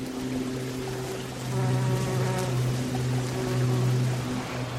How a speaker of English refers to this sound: Hear a plane droning overhead and the bee droning through this lungwort, the pulmonaria.